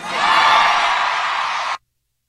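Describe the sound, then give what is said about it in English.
A large crowd at a country music performance cheers and roars in a loud, steady wash of voices and whoops that holds for under two seconds, then cuts off abruptly into silence. “Boy, that crowd sure seems like they're not into it, don't they?”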